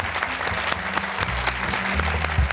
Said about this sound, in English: Please join me in applauding Damien.